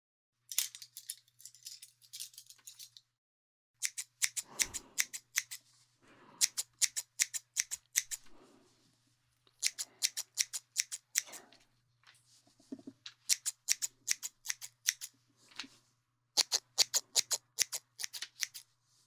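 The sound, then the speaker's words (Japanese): Crisp scissor snips thinning out a thick head of hair all over come in quick bursts of rapid clicks, separated by short pauses, with no talking. “少し緩めるね。まずは全体的に空いていこう。”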